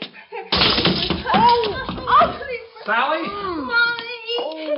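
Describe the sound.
A sudden loud crash and clatter as someone trips over a toy and tumbles in the dark, with scattering impact noises, followed by agitated voices crying out and talking over the commotion.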